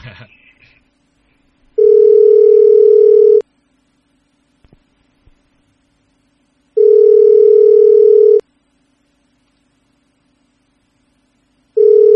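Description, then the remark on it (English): A US-style telephone ringback tone heard over Skype while calling a house phone: a steady electronic hum that repeats in bursts of nearly two seconds, separated by longer silences, three rings in all, clear and fairly loud. “That sounded like a US ringtone.”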